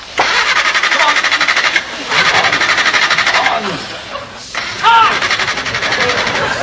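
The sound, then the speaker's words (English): Mr. Fawlty's car engine, somewhere in town, cranks and sputters in several rough, rattling bursts separated by short pauses, loud and mechanical, never catching and settling into a steady run. “But somewhere in town, Mr. Fawlty is have trouble with car. It stop.”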